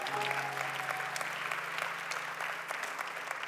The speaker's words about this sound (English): I'm preaching better than they're clapping right now